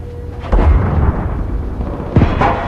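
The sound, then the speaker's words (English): A tank cannon fires a high-explosive shell at the second floor of a building at 9 o'clock, the shot going high and missing, with a heavy, deep boom, followed by a sustained low rumble and then a second sharp blast about two seconds later. No one speaks. “Gunner, load HE, second floor, building, 9 o'clock.”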